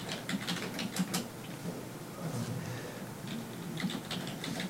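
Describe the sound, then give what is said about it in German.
Rapid, uneven clicking of keys on a computer keyboard, with short bursts and brief pauses between them and no one speaking. “Ja, da wird getippt.”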